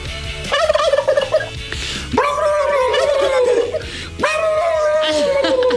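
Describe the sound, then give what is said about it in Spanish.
A person imitates a turkey gobble three times in a row, each a loud, warbling, throaty burst with wavering pitch, with brief pauses between. “Oigan, bueno, a ver, que la gente decida quién hace mejor el pavo.”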